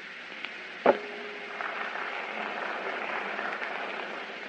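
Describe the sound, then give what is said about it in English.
An audience hisses in disapproval, a steady, airy wash of crowd noise that holds for several seconds, with a single sharp knock near the start and no one speaking. “I am sorry I didn't call your attention to the fact that there's only one kind of animal that hisses, and he crawls.”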